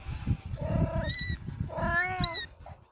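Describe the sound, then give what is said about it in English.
A baby kitten meows twice in quick succession, high-pitched and plaintive, with low rustling and handling noise underneath. “Whoever threw this here, or whoever lit the fire, knew this kitten was here.”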